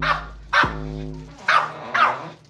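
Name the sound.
dog barking and growling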